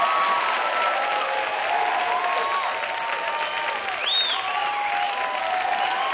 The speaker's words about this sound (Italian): C'è un sacco di gente. Facciamo un altro bel applauso